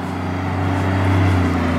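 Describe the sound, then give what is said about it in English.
A small construction dump truck on a small road in Japan rumbles past, its diesel engine droning loudly and steadily, swelling slightly as it passes, with no voices. “big dump truck”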